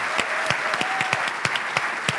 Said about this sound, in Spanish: Así que ahora sí quiero pedir un aplauso, un fuerte agradecimiento y felicitaciones. Gracias.